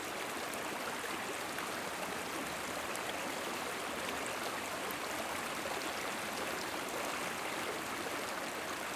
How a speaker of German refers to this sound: Ich gehe tiefer in den Wald hinein und stoße dabei auf einen sprudelnden Bach.